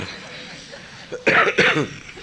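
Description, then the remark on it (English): Two quick, harsh, loud coughs in close succession from a person with a cough, after a brief quiet lead-in with faint background noise. “It's not intentional. I have cough.”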